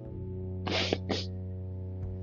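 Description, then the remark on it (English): Two quick, breathy nasal sniffs from nasal congestion in succession, the first slightly longer, with an airy hiss over a steady low electrical hum. No one speaks. “My apologies for like the sniffs and shit.”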